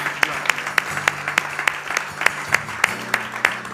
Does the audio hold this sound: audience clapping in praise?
yes